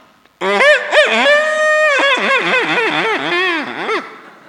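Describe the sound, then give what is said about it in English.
A rooster crows once, loud, a long drawn-out call of about four seconds with a wavering, warbling pitch that drops at the end, with nothing else around it. “Whilst the moon falls asleep, as the cock greets the sun.”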